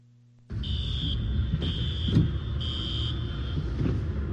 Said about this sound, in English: The sound of car alarms triggered by the intense storm was captured by a weather tracker